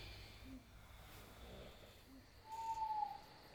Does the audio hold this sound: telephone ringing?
no